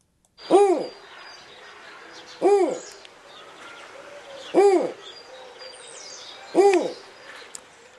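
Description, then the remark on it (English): A snowy owl hoots four times at steady intervals of about two seconds, each call a clear, rising-then-falling note standing out over a soft, continuous outdoor background hiss and faint bird chatter. “Well, that is the hoot of a snowy owl.”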